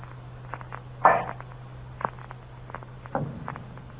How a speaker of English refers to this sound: The sound continued. With my earthenware jug, I knocked against the wall where the sound came.